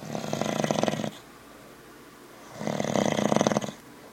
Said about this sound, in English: What's that? That's you snoring.